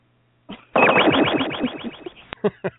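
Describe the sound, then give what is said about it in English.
A bleep-style censor effect from a radio show's bleep button plays loud: a buzzy, distorted electronic burst with a rapid stuttering pulse for over a second, then a click and a couple of short choppy blips. “Here's a bleep button for you.”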